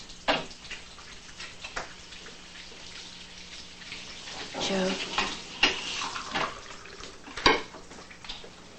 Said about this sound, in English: Angela eyes him hesitantly, carries a coffee pot to the table, and pours two cups of coffee.